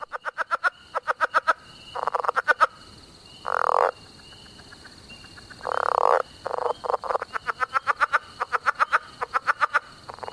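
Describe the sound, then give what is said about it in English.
A chuckling leopard frog calls alone, fairly loud: rapid trains of chuckling clicks broken by longer, rasping snore-like croaks, with a steady high insect drone in the background. “Like this chuckling leopard frog, a favorite of Tom Crone's.”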